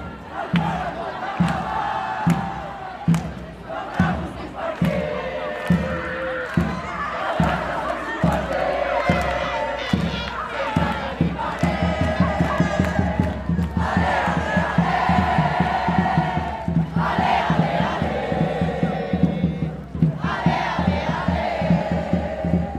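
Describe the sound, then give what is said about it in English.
A loud crowd of Barcelona football fans outside Stamford Bridge chants in unison for their team while drums pound in a steady, insistent beat beneath the massed voices, the singing swelling and sustaining throughout, as they celebrate reaching the Champions League final. “The Barcelona fans are out in full force outside Stamford Bridge, banging the drums, chanting for their team, waving their flags, celebrating reaching that Champions League final.”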